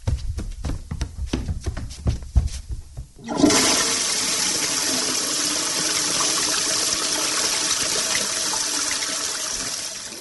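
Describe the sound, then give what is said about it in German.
A few seconds of low thumping and shuffling, then a toilet flushes loudly, its broad rushing gurgle of water continuing steadily to the end. “Puh, jetzt muss ich aber mal auf Klo.”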